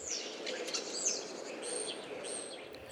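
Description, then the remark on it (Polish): A common starling's song closes with its ending phrase of a few thin, high whistles and squeaky chatter, over a steady low rumble of background noise. “O, i poświstywanie na koniec. To z kolei szpaków dżingiel kończący.”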